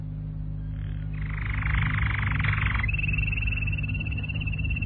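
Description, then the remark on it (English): A canary from a pet shop sings on a desk over a low, steady hum: a fast buzzy trill for a couple of seconds, then a long, thin, high-pitched whistled note that holds steady to the end. “Adam, what on earth is that? Canary.”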